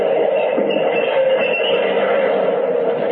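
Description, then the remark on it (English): An uptown subway train at Broadway and 42nd Street runs with a steady, loud rumble and rattling roar that stays constant throughout, with no voices. “I walked down to Broadway and 42nd Street and into the uptown subway just the way I always did.”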